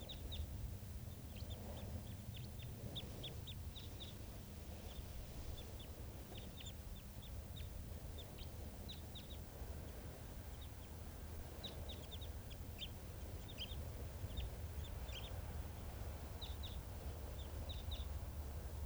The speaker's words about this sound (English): This is one of the birds that's calling here.